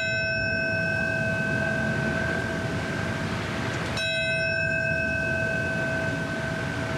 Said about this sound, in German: Mit Glockenschlägen und Schweigeminuten wurde heute auch an die Momente erinnert, an denen die Türme des World Trade Centers einstürzten und viele Menschen mit in den Tod rissen.